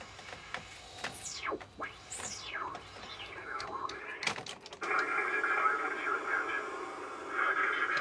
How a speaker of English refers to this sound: Noise. Transference. Maddest sound and white noise I've ever heard.